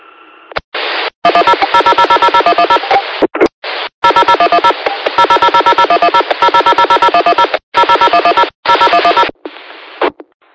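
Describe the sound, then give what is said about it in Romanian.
Rapid, loud electronic mobile phone dialing tones sound in quick bursts with brief gaps, a harsh, buzzy sequence of beeps as a phone number is keyed in over a radio channel. “Greco 7 Alfa mai Kilo, Greco 7 Gol, ce pe gulul mobil va apeleză.”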